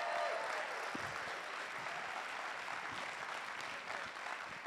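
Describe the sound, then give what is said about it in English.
A crowd applauds steadily, a dense wash of many hands clapping at an even level for several seconds with no voices standing out. “can we give them a round of applause, please, for making all that happen?”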